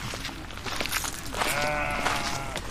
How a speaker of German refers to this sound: Und auf der rechten Seite hört man sie schon. Hört man sie, die Schafe.